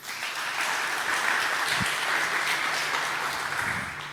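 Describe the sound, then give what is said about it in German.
An audience applauds the mushrooms, which were lights, steadily: many hands clapping in a dense, even wash of sound that holds at a fairly loud level for about four seconds, with no voices on top. “Applaus für die Pilze.”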